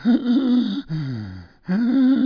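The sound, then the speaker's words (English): A person imitates the wheezy breathing of someone with asthma: three strained, voiced breaths, a rasping inhale, a lower groaning exhale, then another high wheeze, loud with no words. “And if he was ever in the room, you could hear him breathing.”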